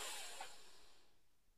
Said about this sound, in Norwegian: Men da gjør vi det en gang til. Pust godt inn, og helst med nesa.